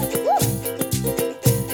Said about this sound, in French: Comment fait le chien?